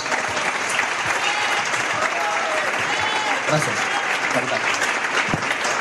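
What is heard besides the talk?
audience applause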